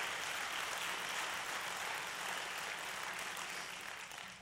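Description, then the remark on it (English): An audience claps to give Jesus thanks, a dense, sustained wash of many hands with no distinct beats, holding an even level throughout and easing off slightly at the very end. No one speaks. “Come on, let's clap like we mean it.”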